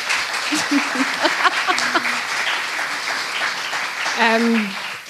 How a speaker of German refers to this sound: Die sind auf jeden Fall einen Applaus wert, weil die beiden sind großartig.